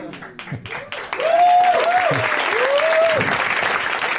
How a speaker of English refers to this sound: Now is the point at which you clap excitedly.